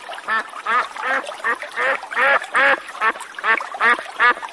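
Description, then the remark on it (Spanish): A duck quacks over and over in a quick, steady series of about ten loud, nasal calls, with no other sounds around it. “Un pato que era muy orgulloso se paseaba por la orilla del estanque”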